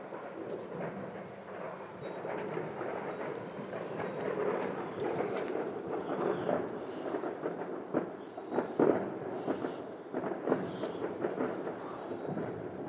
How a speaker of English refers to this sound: Happy New Year, guys. This is the fireworks at Shawcross.